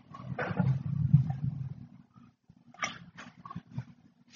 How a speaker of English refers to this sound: Dog's going crazy.